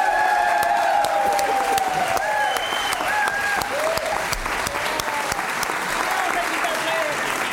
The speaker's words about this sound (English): And a special round of applause for the guy who's here recording it three nights in a row, yeah.